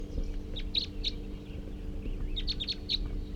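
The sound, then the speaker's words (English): A small male bird with a lot of yellow on its head, just captured, gives bright, high-pitched chirps in two short bursts, a few quick notes early then a denser run of four or five near the end, over steady low background hum. He is bird number 341, captured at 7:30 on June 19th. “So recording that male who was just captured, somewhat small build and has a lot of yellow on the head.”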